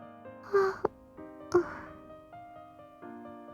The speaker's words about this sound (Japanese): すみません。あくびなんて、安心したせいでしょうか。少し、眠気の方が、時々は止まりませんけど、今なら、眠れるような、そんな気がします。